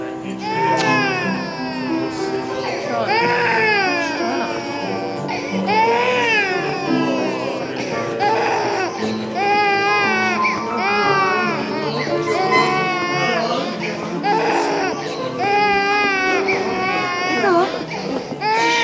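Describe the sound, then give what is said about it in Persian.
A baby cries and fusses continuously and fairly loudly, with wavering wails rising and falling in repeated bursts, with no other sounds competing. “من باید برم، خیلی بچه داره بیتکاری میکنه.”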